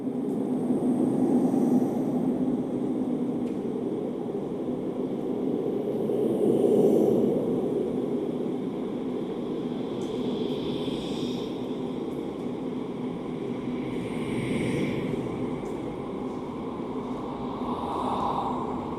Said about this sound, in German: Auf dem Weg nach draußen durchqueren wir noch Ablingers dazugehörige Installation, eine Klangschleuse aus 5 Lautsprecherpaaren, die mit weißem Rauschen die Vokallaute nachbilden.